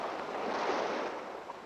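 Calm, still sea water laps softly around a small boat pushed off into the water on a calm day under a light blue sky. It is a quiet, steady wash with no distinct splashes and no voices.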